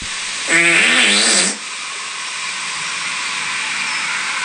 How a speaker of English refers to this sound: That was just fart.